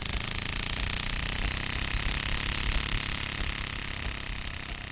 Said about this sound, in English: And, you know, finally, as you really ramp up that card that's in the clothing pin, it makes almost sound like a lawnmower.